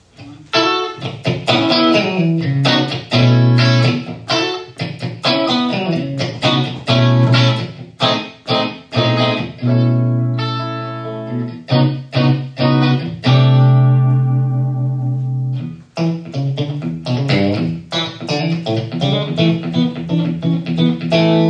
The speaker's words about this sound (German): Auch da versuche ich nicht ständig neue Effekte, sondern ich suche mir ein schönes Delay. Ich suche mir irgendwie ein bisschen Hall, weil ganz trocken.